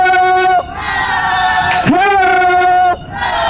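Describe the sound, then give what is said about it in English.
A crowd yells "ho" in unison in response to a call, loud, a series of sustained shouted calls with brief gaps between them, voices blending into one big chant. “Clap your hands and say, if you're feeling good and on the go, somebody say, ho!”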